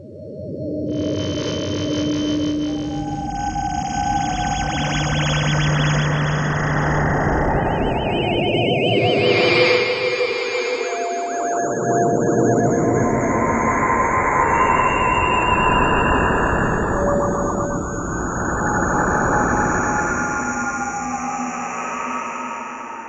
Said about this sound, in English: Giant radio telescopes have recorded sounds from galaxies far away, and the waves that reach us here make up a brilliant musical chorus. Here's an example.